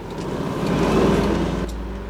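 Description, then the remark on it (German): A car engine rumbles, its low drone rising and swelling toward the middle before easing off, as a car with its headlights coming on approaches and rolls past. “Hey, seht mal, da blendet ein Auto auf und kommt auf uns zu.”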